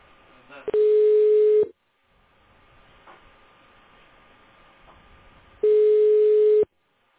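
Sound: telephone ringback tone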